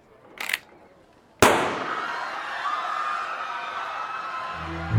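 gunshot

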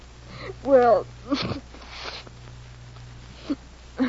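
nose blowing

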